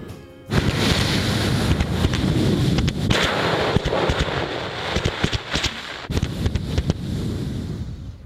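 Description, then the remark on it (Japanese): A voice imitates a Tokyo Marunouchi Line subway train: a loud, sustained hissing rumble with sharp clicks and bursts, like wheels rattling over track joints, running steadily for several seconds. “はい、じゃあ行きますよ。はい、これこれ丸の内線です。”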